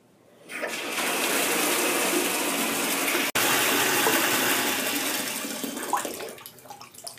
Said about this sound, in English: Ooh, my gosh, the temperature is really cold. Hold on. Let me just put the hot water a little bit more.